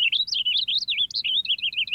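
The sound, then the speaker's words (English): A purple finch sings a rapid, rambling warble of bright, high notes that tumble up and down without pause, clear, with no voices present. “Purple finches in the West sing a little differently from those in the East.”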